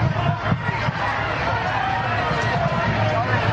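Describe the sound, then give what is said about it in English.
A dense, steady roar of crowd noise, loud and continuous throughout, with overlapping voices blending into an indistinct hubbub and occasional sharper shouts poking through. “You can't even hear anything. The crowd is so loud.”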